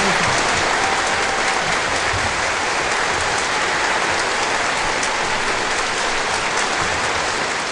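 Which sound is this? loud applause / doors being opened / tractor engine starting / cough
loud applause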